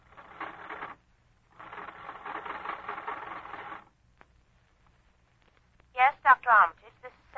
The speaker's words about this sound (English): Oh, he's on this line too, isn't he? Hang on and I'll ring him.